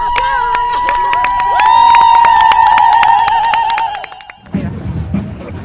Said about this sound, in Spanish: Aplaudan, aplaudan, no dejen de aplaudir, que todas las mujeres se van a hacer oír.